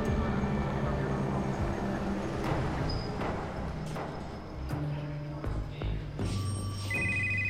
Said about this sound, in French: Le téléphone sonne au commissariat de Watertown.